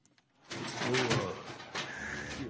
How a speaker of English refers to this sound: Here's the clip of the Bald Eagle.